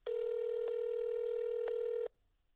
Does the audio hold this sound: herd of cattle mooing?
no